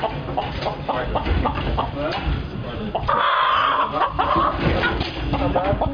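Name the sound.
chicken clucking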